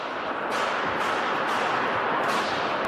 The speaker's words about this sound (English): A Globe and Mail recording captured some of the gunfire and images of people running inside the halls of Parliament.